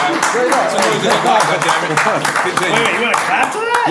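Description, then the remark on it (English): Scattered hand clapping from several people, a steady patter of claps mixed in with loud overlapping voices talking and calling out. “Wait, you want to clap to that?”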